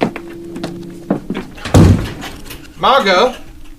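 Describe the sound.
A door slams shut with a sharp, heavy thud, followed shortly by a raised voice demanding that the door be opened.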